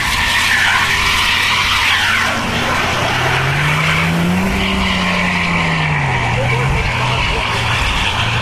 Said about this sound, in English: he became very nervous and tried to correct his movement and return the vehicle to where he thought the paved road was by steering cautiously to his left. This did not work as planned as his car began to skid while still moving forward.